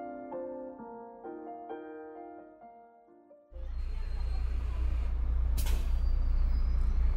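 A short plinking melody gives way to the loud rumble of a bus idling at a bus stop, and a sharp burst of air-brake hiss cuts through near the end.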